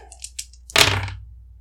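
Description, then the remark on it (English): Dice rolled on a table: a few light, high clicks, then a sharp clattering impact that rattles briefly and fades out within half a second. No voices. “All right, rolling on the table.”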